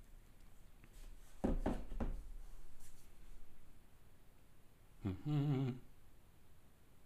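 An outgoing internet call, placed by clicking the contact's picture, rings once: a short, warbling electronic tone with a rich buzzy timbre, preceded by a few dull clicking knocks over a quiet background hiss. The call goes unanswered to voicemail. No one speaks.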